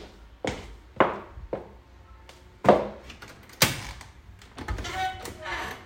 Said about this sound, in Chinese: 来了来了，别敲了。